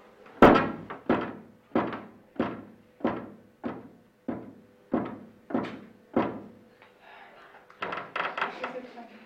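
Around ten sharp wooden knocks on a table during a table-tapping session answering a question, evenly spaced, followed by a brief pause and then a quicker, busier flurry of taps.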